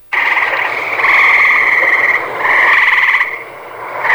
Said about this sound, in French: C'est une rainette versicolore que j'avais par chez nous.